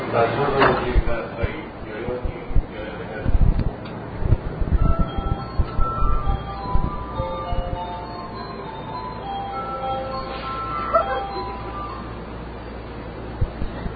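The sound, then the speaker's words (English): Inside a crowded commuter train in Tokyo: a steady low rumble under indistinct murmuring passengers, with occasional clinks and a few soft chiming tones drifting through the carriage. “All right, this train again is very crowded. We're going to take this for one more stop.”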